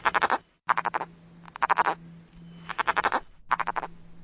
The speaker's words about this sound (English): Here's the Cascades frog.